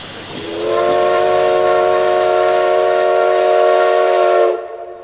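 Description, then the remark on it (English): The whistle of steam locomotive 338 sounds one long, loud, steady blast for about four seconds over a low rumble of train noise, then cuts off abruptly. The train is leaving a station to resume its journey after taking on wood and water. “The 338 had taken on wood and water and was ready to resume the journey, freeing the main line for the westbound to leave on schedule.”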